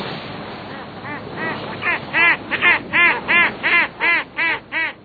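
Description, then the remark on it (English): Seabirds at the edge of North America's continental shelf off the coast of North Carolina on a summer day, calling in a steady series of harsh, nasal, cawing cries, faint and overlapping at first, then growing louder into about nine evenly spaced calls over a soft background wash. “Seabirds gather where food is abundant, at the edge of North America's continental shelf, where nutrient-rich waters nurture a wealth of squid and small fish.”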